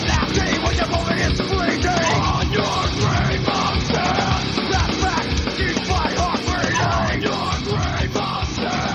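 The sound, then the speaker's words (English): A hoarse male guest vocalist yells two lines forcefully over dense, loud distorted hardcore band music that stays constant throughout, the shouting rising in bursts above the wall of guitars and drums. “Were you there when he's like, he yells two sentences on that song?”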